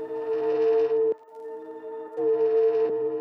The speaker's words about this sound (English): That drone, that's a snippet of … where the reverb got engaged.